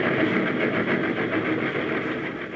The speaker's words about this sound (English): Suddenly, I realized that I was hanging on the side of a speeding train.